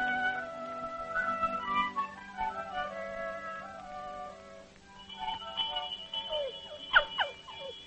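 A farm dinner bell rings on and on, its metallic tones overlapping and sustaining in a steady clang, with a few sharp accents near the end.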